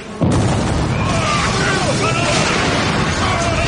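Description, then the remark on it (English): A sudden explosion erupts after a brief moment of quiet, followed by heavy, continuous rumbling as a boulder crashes down, with faint voices crying out beneath the roar. “There's an explosion, and a boulder falls down and crushes somebody.”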